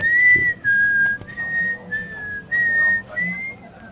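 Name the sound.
whistling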